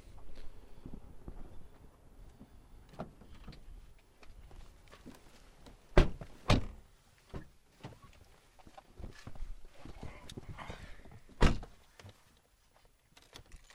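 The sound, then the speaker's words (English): A car door is handled amid rustling and clicks as people open it and get into the car, with two sharp thumps near the middle and another solid slam later, fairly loud, with no talking. “Okay, now we're going to open the door and get in the car.”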